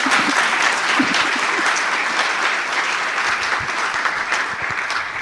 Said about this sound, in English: So give her a big applause and thank you.